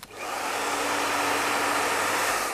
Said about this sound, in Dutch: Dus ik denk dat de meesten misschien wel kunnen raden wat het is. Het is inderdaad een haardroger.